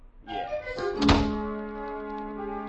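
door being closed

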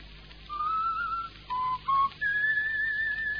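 person whistling a tune

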